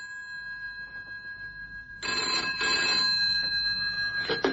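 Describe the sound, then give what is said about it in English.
A telephone in a public phone box rings in loud, rattling bursts that start midway through, preceded by a steady electronic whine, with no voices. “That's why I'm ringing your phone box.”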